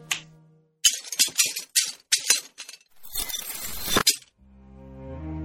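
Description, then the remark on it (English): A run of bright glassy clinks builds into a dense shimmering tinkle as the broken glass in a case magically repairs itself, then settles into a soft, sustained magical chime. No voices. “I want the glass in the case to be repaired.”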